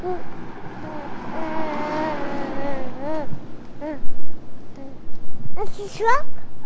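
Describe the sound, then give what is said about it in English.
A truck rumbles past, a steady low engine drone that swells and fades beneath people talking in the foreground. “That's a truck.”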